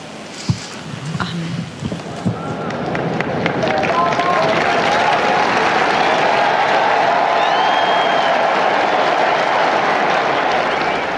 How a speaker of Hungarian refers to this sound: Ebből a nagy tapsból és üdv rivaldából gondolom rájönnek a kedves hallgatók, hogy sokan vannak jelen a Szent Péter téren, és hát így fejezik ki hálájukat Ferenc pápa tanításának, áldásának.